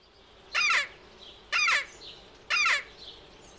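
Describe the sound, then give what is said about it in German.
A Quäke (Hasenquäke, also Hasenklage or Fuchsreise), a predator call used by hunters to lure foxes, mainly in winter, imitating a hare's distress cry: three loud, harsh, raspy squeals, each about a third of a second long, spaced evenly one second apart against faint background hiss. “Quäke, auch Hasenklage oder Fuchsreise, Instrument zum Nachahmen des Angstschreis des Hasen.”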